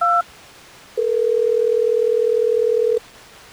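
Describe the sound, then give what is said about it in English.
A short dual-pitch keypad beep, then after a pause a steady, loud telephone tone holds for about two seconds and cuts off as a call is placed from the Hot 101.5 radio show, with no voices present. “Let's go ahead and get him on the phone real quick.”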